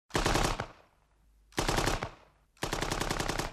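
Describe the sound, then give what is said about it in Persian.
Three rapid bursts of machine-gun fire, each a loud, fast string of sharp shots separated by brief pauses, with the last burst running longest. No voices are heard. “صدای رگبار گلوله دیگر به آنها فرصت نداد راجع به تعبیر خواب صحبت کنن.”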